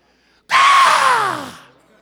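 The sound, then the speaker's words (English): A voice lets out a single loud, harsh, raspy screech imitating a raven's cry, lasting about a second and trailing downward in pitch before fading out. “And if you look up that word in the original, it literally means to scream like a raven.”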